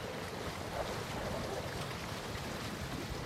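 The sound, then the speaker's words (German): A steady, full roar of wind picking up over open sea, with surf and water rushing beneath it, loud and constant throughout with no voices. “Schiet, der Wind nimmt Tau.”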